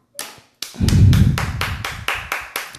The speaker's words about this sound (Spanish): Palmas para el tequila.